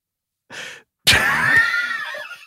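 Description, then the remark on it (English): A short musical fart, a toot: a brief breathy puff, then a loud, pitched, reedy blast lasting over a second that wavers and fades slightly. No talking. “Six fart three.”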